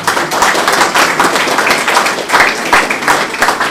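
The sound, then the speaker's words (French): Steady applause from a crowd for the painters of a large fresco, many hands clapping in a dense, continuous patter at fairly high volume for several seconds, with no voices standing out. “D'ailleurs, on va applaudir.”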